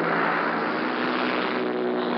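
A dense, steady roar of several propeller engines of paratroop planes droning overhead as they circle the aerodrome before taking their course, loud and continuous with a low humming undertone and no voices.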